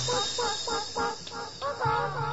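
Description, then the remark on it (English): Chickens cluck in a steady run of short, nasal, mid-pitched calls, about five or six in quick succession, with a low hum underneath and no voices. “where's my chickens? Thank you, chickens.”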